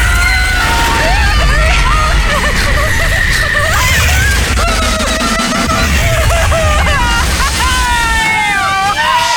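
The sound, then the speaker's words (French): Loud, continuous rush of wind and mechanical rumble from Le Titan, a new fast-moving thrill ride at La Ronde amusement park, with many riders screaming and yelling over it in overlapping, rising and falling wails throughout. “Aujourd'hui, je m'apprête à essayer la nouvelle attraction de la ronde.”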